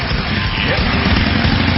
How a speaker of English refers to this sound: Yeah, motorcycle. Coming in hot.